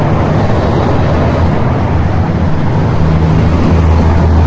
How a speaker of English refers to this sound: It's kind of hard to be serious when there's all this traffic here.